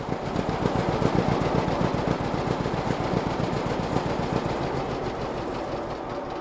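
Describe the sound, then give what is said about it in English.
An old two-cylinder John Deere "Johnny Popper" tractor engine at a town tractor show pops along in a steady, rapid chugging rhythm, loud, with no voices and no change in pace throughout. “It's the John Deere, the two-cylinder Johnny Popper sound.”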